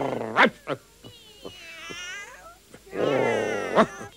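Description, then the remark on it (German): Many cats, at least 100, sitting on a garden fence meow and caterwaul, their drawn-out, wavering yowls overlapping in a loud chorus, with short sharp cries between longer wails and no talking. “Am Gartenzaun hocken mindestens 100 Katzen.”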